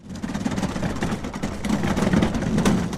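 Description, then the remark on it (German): A heavy GLS parcel delivery truck engine rumbles steadily, a low idling drone, as it stops in front of the El Bercial metro station in the Madrid suburb of Getafe at 7 pm, under a wash of outdoor street noise, with no one speaking. “Ein LKW des Paketdienstleisters GLS hält vor der U-Bahn-Haltestelle El Bercial.”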